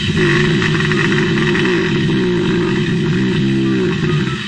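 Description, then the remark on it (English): Five hibernating bears under a house in California rumble: a loud, steady, low droning growl with a throbbing, engine-like quality that continues without pause for the whole stretch, with no voices present. “Okay, hibernating bears under a house. That's my next guess.”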